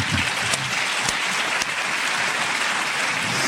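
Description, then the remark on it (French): Enthusiastic applause from a crowd of fans, a dense, steady wash of clapping that stays loud and even for a few seconds with no voices on top. “Et signalons à vos nombreux fans qui ont l'applaudissement enthousiaste à votre égard”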